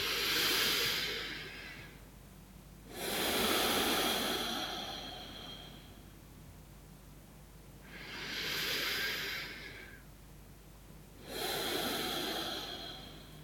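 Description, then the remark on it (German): Slow, deep breathing through the nose at the start of a self-hypnosis exercise, with four long airy inhale-exhale swells spaced a few seconds apart, fairly soft with quiet pauses between, no talking. “Gerne darfst du dabei durch die Nase atmen”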